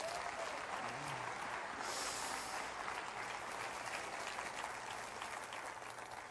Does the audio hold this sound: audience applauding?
yes